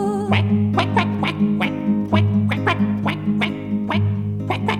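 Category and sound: animal, duck quacking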